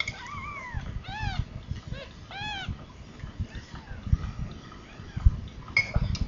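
A newborn kitten, Brownie, mews several times in quick succession, thin rising-and-falling cries over a low rumbling background, then grows quieter with one more faint call near the end.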